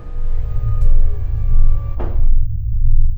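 Large sliding shuttle bay doors close over a deep, steady mechanical hum, finishing with a short hissing whoosh and a muffled seal that leaves only the low rumble behind.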